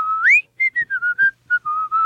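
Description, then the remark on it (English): A person whistles a short, bouncy TV show theme tune, a series of clear pure notes with a rising slide at the start, then choppy separated notes settling into longer held tones. “And that was his theme song, in case anybody listening is wondering. He used to whistle every day, come in, actor dressed like a cop with the billy club.”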